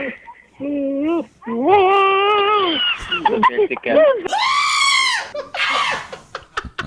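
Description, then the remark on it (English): A montage of goats bleating loudly in rapid series, their cries sounding strikingly like human screams and shouts, with several different goats crying one after another. “Here's a new montage of goats screaming like people.”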